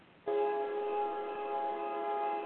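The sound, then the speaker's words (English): A train sounds a long, steady horn blast that begins abruptly and holds at an even, fairly loud level throughout, with no one talking over it. “Am I hearing a train? I'm hearing a train.”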